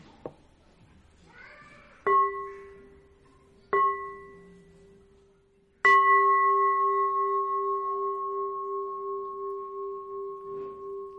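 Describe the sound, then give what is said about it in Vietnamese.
A village communal-house shrine bell, not a pagoda bell, is struck three times in brisk succession. The first two strokes are damped quickly, and the third rings out long and resonant, preceded by faint, whiny sounds. “Đây là chuông có đình miễu, không phải chuông chùa.”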